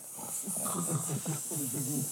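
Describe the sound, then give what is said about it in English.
A voice imitates a sleeping snake's hiss, a steady breathy hissing mixed with low, rumbling snore-like sounds, held for about two seconds. “How did the snake sound sleeping?”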